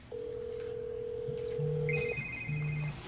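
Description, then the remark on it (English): Mrs. May's telephone rings from a desk with steady electronic tones, a long sustained note giving way to higher-pitched repeating beeps over a low buzzing pulse, fairly loud with no voices. “Ah, that must be Mrs. May's phone.”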